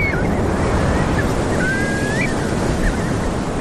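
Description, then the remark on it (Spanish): Ocean waves wash onto Carnota beach in A Coruña, on the Costa da Morte, in a steady, continuous roar of surf, with a few faint, thin whistles of shorebirds such as whimbrels and plovers drifting above it. No one speaks. “Estamos en la playa de Carnota, en la Coruña, en la Costa de la Muerte.”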